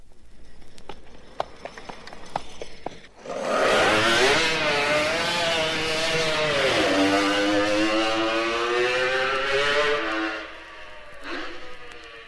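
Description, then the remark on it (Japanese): A Kawasaki H1R racing motorcycle, ridden by Kawasaki top rider Masahiro Wada and at its starting position, bursts into a loud, high-revving two-stroke wail after a few seconds of sparse clicks, its pitch climbing and shifting through gear changes before fading away. “さて続いては川崎のトップライダー和田雅宏の乗る川崎 H1R の登場です。スタート位置につきました。”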